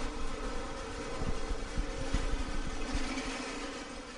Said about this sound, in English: It's late afternoon, and a drill press sends echoes through the design and technology classroom at St. Patrick's, where the engineering team works on their robot.